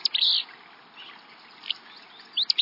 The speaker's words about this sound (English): This sneezy song belongs to a willow flycatcher, a small gray-green bird singing from atop a nearby shrub.